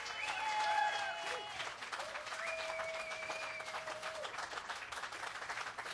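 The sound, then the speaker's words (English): A crowd applauds the contestants of a banjo competition steadily for several seconds, a dense, even wash of many hands clapping, with a few thin, sustained whistles rising above it. “I also want to give a huge round of applause to each contestant that entered today.”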